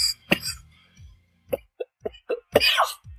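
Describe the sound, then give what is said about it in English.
A series of short, sharp coughs from a person with a cold, irregularly spaced, with a couple of stronger, raspier bursts among smaller throaty ones and brief pauses between. “I got a cold. I got to keep this cough from going.”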